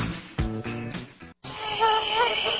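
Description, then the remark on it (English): A short burst of tonal chords, a brief pause, then a steady, wavering whine of about 10,000 hungry mosquitoes and biting flies buzzing inside a zipped tent, droning continuously to the end. “The folks from off zipped me into this tent filled with 10,000 hungry mosquitoes and biting flies.”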